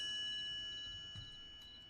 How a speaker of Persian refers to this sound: تازه زنگوله هم داریم.